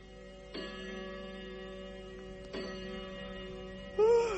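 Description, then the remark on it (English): A clock strikes ten o'clock while it is snowing outside, two clear, ringing strikes about two seconds apart, each tone lingering and fading before the next, and a brief voice enters right at the end. “Oh, 10 o'clock already.”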